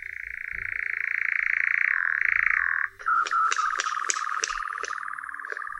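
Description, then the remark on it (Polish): A continuous mechanical churring trill holds steady for about three seconds, then shifts to a lower, pulsing version with rhythmic accents, the sustained reeling of a male nightjar. No voices. “Samiec nawołuje monotonnym, modulowanym tyrkotem. Głos ten może trwać bez przerwy przez wiele minut, a z krótkimi przerwami wiele godzin.”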